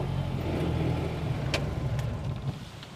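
A side-by-side utility vehicle's engine drones steadily at a low pitch as it drives down to the beach on a farm on Banks Peninsula, with a constant rumble and a few faint clicks and rattles over the top. No voices.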